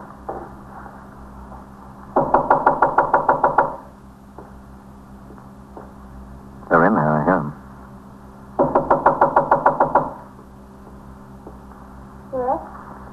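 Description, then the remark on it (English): A police officer pounds on a front door: two bursts of rapid, heavy pounding, each about a dozen loud blows, separated by a brief shouted voice, with a low steady hum underneath. “Open the door. I'm a police officer.”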